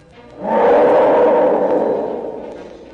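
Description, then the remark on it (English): A hippopotamus at the Detroit Zoo lets out a single loud, deep bellowing roar that starts abruptly, holds strongly for about a second and a half, then slowly fades away. It is heard alone. “Hippopotamus.”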